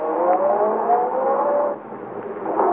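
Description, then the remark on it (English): A big car engine roars loudly and steadily as the car is driven down a driveway, revving with rising whine tones, dipping briefly before surging again as it speeds away. “At the moment she's sending the big car roaring down the driveway,”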